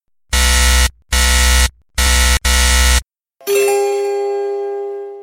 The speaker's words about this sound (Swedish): Jag tryckte inte på någonting och möttes med ett surr som nästan slet ur mina trumhinnor.